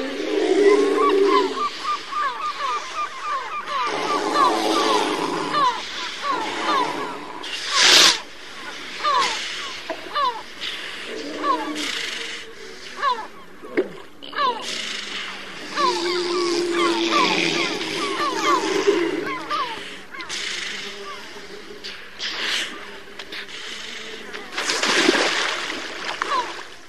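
Deep grunts, snorts and rumbling snore-like calls from large seals lying on a beach close by, repeating irregularly over splashing water, with honking, nasal tones mixed in throughout.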